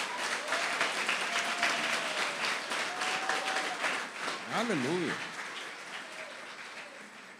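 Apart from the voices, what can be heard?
audience applauding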